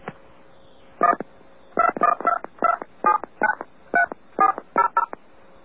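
A quick series of about eleven touch-tone beeps as the phone number for WBAI is dialed to add it to a phone directory, each a short two-tone chirp in an uneven keypad rhythm, clear over a faint steady hum.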